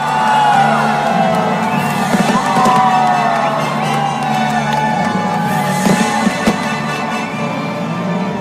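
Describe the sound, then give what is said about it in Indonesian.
A crowd of more than 1 million people watching the New Year fireworks show in Sydney, Australia, cheers and whoops continuously, with shouts and high voices rising over a dense roar; a few sharp bangs of fireworks punctuate the noise. “Sydney, Australia, di mana pertunjukan kembang api menarik perhatian lebih dari 1 juta orang yang menyaksikan langsung pertunjukan yang juga didedikasikan bagi David Bowie dan Gene Wilder, dua dari sejumlah selebriti yang meninggal dunia tahun 2016.”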